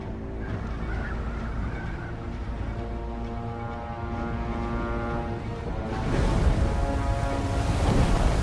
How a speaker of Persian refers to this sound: دریا متلاطم